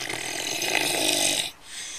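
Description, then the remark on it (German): A small pet animal snores in one long, raspy, wheezy breath that lasts about a second and a half, then stops briefly before the next inhale begins; fairly loud, with no talking. “Tiere schnarchen genau wie Menschen.”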